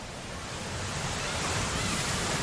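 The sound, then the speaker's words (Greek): A steady, broad rush of surf swells slightly louder over a couple of seconds, like waves washing onto a shore, with no voices. “Θάλασσα, ήλιος, παρέα και μύθος.”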